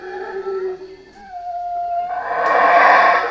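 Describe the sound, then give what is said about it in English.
Howler monkeys calling in a tropical rainforest in Belize: long, moaning howls that swell into a loud, rasping roar, continuous, with no one talking. “Those are howler monkeys in a tropical rainforest in Belize.”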